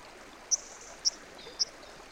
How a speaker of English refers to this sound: Between a corridor of willows, black alders and ashes, the Estena River's seasonal water runs down during these first days of December with more water than usual. Fall has been especially rainy, which can be noticed in the water level of the streams